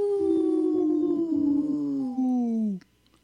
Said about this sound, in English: supported by Howling for Wolves, protecting wolves for future generations. Howl! Howl!